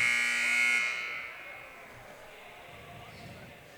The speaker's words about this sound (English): Taylor Quarles, the senior, hits the three-pointer at the buzzer